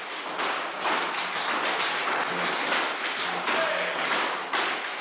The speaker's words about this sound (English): What we're seeing here is a room of about a dozen students all tapping, clapping